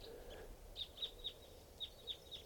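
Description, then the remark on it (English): A flock of about 10 or 12 type 2 red crossbills calling while perched atop a tall Douglas fir by a camp, a series of about six sharp, high, clipped notes repeating every quarter to half second over a low, steady background hum. “big flock of crossbills just flew in here. Sound like type twos must be about 10 or 12 birds.”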